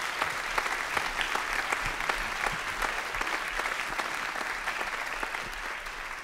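An audience applauds the staff and management of the venue, many hands clapping in a dense, crackling patter that holds at a fairly even volume throughout, with no voices standing out.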